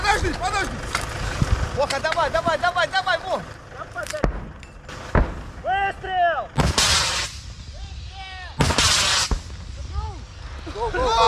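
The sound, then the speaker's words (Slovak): Several loud, booming gunfire or artillery blasts burst out at irregular intervals, some sharp and some rolling on for a moment, with people talking in between. “Prestrel! Výstrel!”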